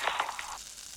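Food sizzles and crackles in a hot pan as a meal is cooked in a kitchen, a steady hiss with a few brighter pops early on that settles into a softer, even fizz. No one speaks.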